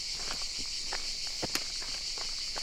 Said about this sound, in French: Les cigales nous suivent.